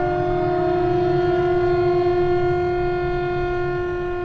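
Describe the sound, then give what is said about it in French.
A loud, steady siren at the central town hall of Bobo-Dioulasso wails continuously at a constant pitch with strong harmonics, holding without rise or fall for several seconds, with a low rumble beneath and no voices; it is sounded at set hours to mark work times. “Je suis chargé de la sirène à la mairie centrale de Bobo Dioulasso.”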